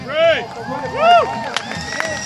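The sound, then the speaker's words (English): A crowd at a rally cheers with rising and falling whoops and shouts, joined by a few scattered claps, welcoming the next speaker, loud, with general babble underneath. “It's March before we hear our next speaker, so let's welcome them with chants and clapping and screaming.”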